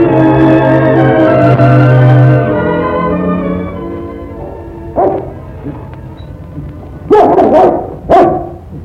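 A dog barks three times, loud, in separate sharp bursts spaced a second or two apart, after a drawn-out tonal sound fades away.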